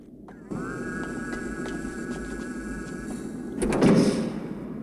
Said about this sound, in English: As they set off along a corridor in the direction of his voice, more doors close behind them.